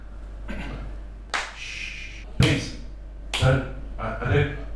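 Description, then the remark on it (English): The only audience member at a comedy show at the Edinburgh Fringe claps a few sparse, uneven times, each clap sharp and separate, with some faint talking mixed in. “I mean, I'm very glad you're here because you're the only person here, but if you clap, then I can't market this and say no one turned up at my show.”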